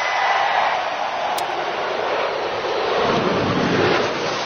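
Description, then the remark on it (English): A huge stadium crowd at Daytona International Speedway roars and cheers for the arrival of President Donald Trump at the race, a dense, continuous wall of noise that stays loud and steady throughout, with no single voice standing out. “And the crowd just went crazy.”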